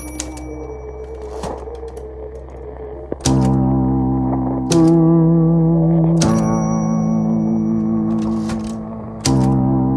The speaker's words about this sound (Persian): از طرفی صدای ماشین تایپ را دوست دارم. نوشتن تنها کاری است که بلدم. تایپ که می کنم همیشه گوشم به موسیقی است.